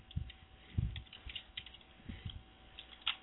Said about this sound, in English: Oh, man. My fingers are killing me from typing.